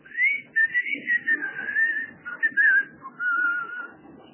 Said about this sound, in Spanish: Todos los días a las 5 de la tarde sentía yo un chiflido que era como una señal que teníamos.